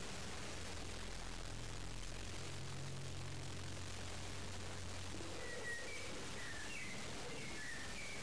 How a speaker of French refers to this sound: Oiseaux qui sont en train de venir